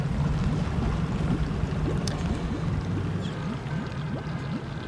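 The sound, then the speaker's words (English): A boat's two large Honda outboard motors drone steadily, a loud continuous low rumble mixed with rushing water and wind, with no voices. “This boat has two giant motors on the back, big Honda motors.”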